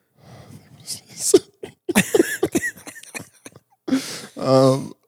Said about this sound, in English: Are you fighting for your life over there? Yeah, it's on like on the verge of a sneeze.